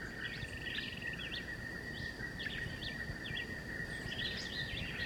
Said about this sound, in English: The high trill is Antillean bullfinch. There's some more parakeets overhead.